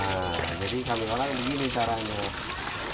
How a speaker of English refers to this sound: He'll call up one of his family members and tell them, go ahead, turn on the pump. And voila, at the other end, out gushes water into someone's bucket.